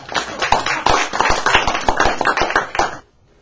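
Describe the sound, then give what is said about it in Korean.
A crowd claps steadily for about three seconds in applause for someone's new resolution, dense overlapping handclaps with a few sharper individual claps standing out, then stops abruptly into near silence. No one speaks. “우리 수원자님 새 결심으로 우리 박수를 받아요.”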